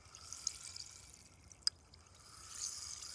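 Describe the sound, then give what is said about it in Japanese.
Soft fizzing against the ear from a carbonated cotton swab traced along the ear's grooves, a steady airy hiss dotted with tiny crackling pops and one sharper snap midway, with no talking. “こちらのお耳も最初は炭酸綿棒さんで、シュワシュワパチパチ、さっぱりしよっか。”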